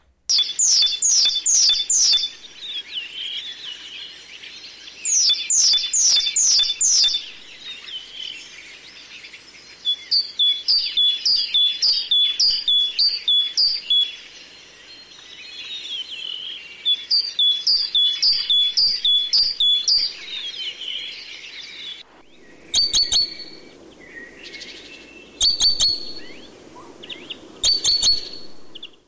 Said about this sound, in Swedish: första vårsången från talgoxen kan man ju höra redan i mellandagarna. Ja, det är härligt att höra den. Den har väldigt fin sång, tycker jag. Ja, då lyssnar vi på den. Och då kan man också höra hur många olika varianter det är i talgoxens sång.